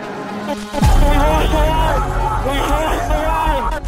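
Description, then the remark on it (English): A large outdoor crowd of protesters outside the east wing of the Capitol on a cold January morning, waving banners and Confederate flags, fills the air with loud, continuous hubbub, many voices overlapping and shouting at once after a brief quieter start, with no single speaker standing out. “This crowd outside the east wing of the Capitol will soon overwhelm the police barrier.”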